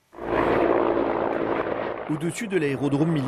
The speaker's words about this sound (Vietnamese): Trên bầu trời sân bay Kramatorsk, một máy bay tiêm kích và nhiều trực thăng bay rất thấp. Các trực thăng đưa thêm quân đến bảo vệ căn cứ chiến lược này, bởi vì có vài chục người biểu tình thân Nga đã tìm cách chiếm giữ.